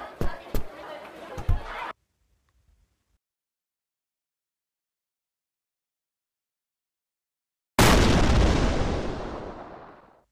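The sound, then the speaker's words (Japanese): After a burst of busy, crackling noise and a long stretch of silence, a single loud explosion sound effect booms, its roar and rumble fading away over a couple of seconds. “結論、全国のリア充でも爆発しちゃう。”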